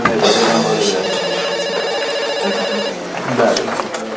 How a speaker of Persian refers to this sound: این واقعا صدای اون تلفن رو نمیشنوی؟ چرا؟ اتفاقا اذیت شدم. ولی من که خب اذیت شدی، ورش دار، کر شدی.